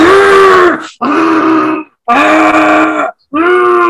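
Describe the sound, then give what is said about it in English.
A voice imitates Dragon Ball Z anime fighting screams: four loud, strained, gritty yells, each held for about a second with brief breaks between, more grunt than full scream, with no words. “You know, that's really more of a grunt.”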